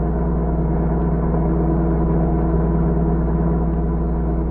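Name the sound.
car engine driving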